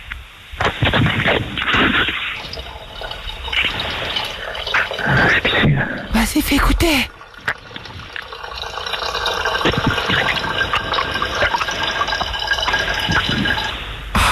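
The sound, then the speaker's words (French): A steady stream of urine splashing into toilet water, thin and phone-filtered, running continuously with slight surges and drips, while a voice speaks briefly at the start. “Oh, c'est un gros pipi, ça.”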